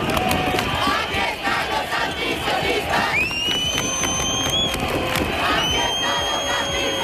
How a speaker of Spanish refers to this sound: mientras el centro se convirtió en el escenario de un grito masivo contra el genocidio de Netanyahu en Gaza.